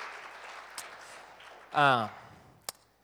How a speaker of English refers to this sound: And I think you should all give yourselves a round of applause for getting out of bed and being here. That's right.